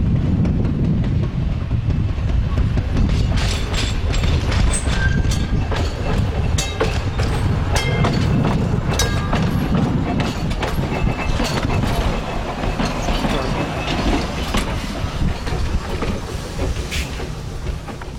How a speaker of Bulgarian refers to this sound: Според мен обаче в тази музика липсва един важен звук – звука на най-обикновен трамвай, който се клатушка по линия номер 30 в Барселона, за да връхлети из-за тъгъла на живота.